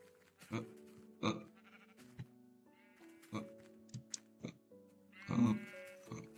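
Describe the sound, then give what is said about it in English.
Several short, wavering sheep bleats sound, interspersed with sharp clicks and thumps, with a louder cluster of bleats near the end. “They cannot even kill a sheep.”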